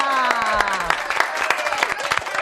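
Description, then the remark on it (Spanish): An audience breaks into applause for the team, a dense patter of many hands clapping steadily with a few cheering voices and whoops rising over the claps throughout. “Bueno, un aplauso qué de todo buena.”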